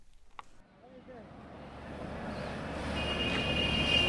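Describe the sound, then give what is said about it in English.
Busy railway-station ambience in the maze of alleyways around the New Delhi railway station, India, as about a dozen tourists are led through: a steady low rumble of traffic and machinery that swells louder, with a thin high metallic whine near the end and faint indistinct voices in the background. “shepherding about a dozen tourists into the maze of alleyways that surrounds the New Delhi railway station.”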